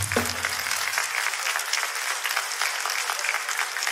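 Audience members who have children clap steadily for a few seconds when asked to, a dense, even patter of many hands with no voices standing out, after a brief low tone at the very start.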